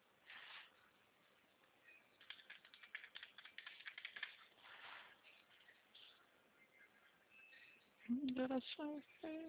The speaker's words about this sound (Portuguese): digitando